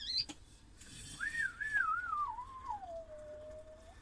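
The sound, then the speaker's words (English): A kettle whistles as the tea water boils: a single shrill tone that warbles, then slides steadily downward in pitch and fades as it winds down, with a brief higher squeal at the start. “Hang on, tea's up.”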